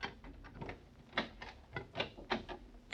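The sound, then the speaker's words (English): An office door being unlocked: a string of metallic clicks and rattles at an uneven pace, like a key turning and jiggling in a lock, ending in a sharp final click. No one speaks. “Okay, wait till I unlock the door.”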